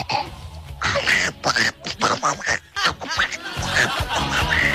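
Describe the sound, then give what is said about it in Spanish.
A voice imitates the cartoon duck Donald Duck with a rapid, raspy, quacking babble of short sputtering bursts, loud and continuous for several seconds with no clear words. “Ese era el pato Donald.”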